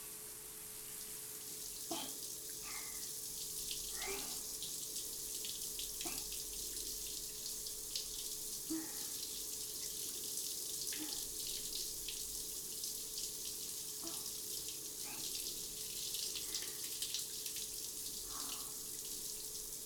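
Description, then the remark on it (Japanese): Tap water runs in a steady, hissing stream while rinsing soap foam off the body, with soft irregular splashes and drips breaking through every few seconds. No one speaks. “私も泡を落としちゃうので、ちょっと待っててくださいね。”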